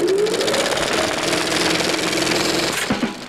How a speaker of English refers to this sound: Well, let's roll back the clock. Actually, I have a roll back the clock sound here. Yeah, here we go.